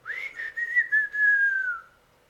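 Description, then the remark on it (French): A man whistles softly and breathily through pursed lips: a few brief wavering bursts, then one longer held note that slides gently downward and fades, heard alone. “M. Repin leva les bras, les abaissa, siffla du bout des lèvres.”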